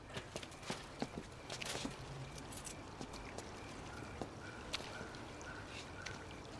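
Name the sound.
horse hooves clip-clopping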